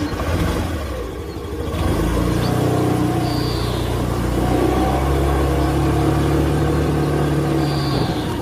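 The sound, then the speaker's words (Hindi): A car engine runs steadily, its low hum shifting slightly as the vehicle brakes and pulls to the side of the road when stopped by a police officer, with faint brief squeaks in the background. “अरे अरे अरे ब्रेक मारिए, साइड कीजिए ब्रेक मार के।”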